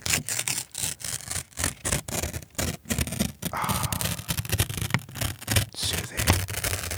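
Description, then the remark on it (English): Paper is torn for ASMR in a quick run of short, crackly rips, then pulled into a longer, steady tearing sound, with no voices. “As we listen to the paper rip”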